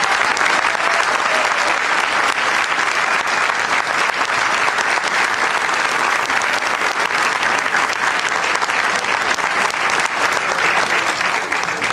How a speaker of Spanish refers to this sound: Sergio Massa, así que un aplauso para Sergio.